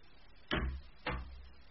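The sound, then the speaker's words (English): A window is pushed shut: two solid thumps about half a second apart, each a broad, moderately loud knock with a brief rattling decay, and no one speaking. “I'll close the window.”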